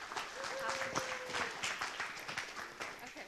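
A crowd applauds, with dense, steady clapping that holds at an even loudness for the whole stretch. A faint, thin tone sounds briefly beneath it near the start.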